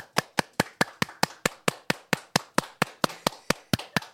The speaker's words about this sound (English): Why are you clapping that? Mate, because it's an achievement.